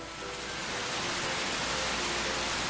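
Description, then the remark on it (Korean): Dense, steady hiss of heavy rain pouring down in Seoul, loud and continuous with no break, filling the whole clip like a heavy downpour. “그날 서울에는 엄청난 비가 쏟아졌습니다.”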